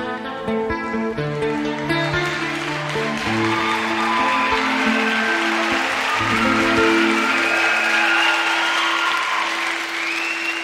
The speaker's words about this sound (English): Give this young man a nice round of applause, huh? Thank you, everybody.